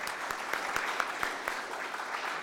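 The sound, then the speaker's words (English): An audience gives a steady round of applause, a dense wash of many hands clapping with a few sharper claps standing out, holding at an even level throughout. “Let's another round of applause.”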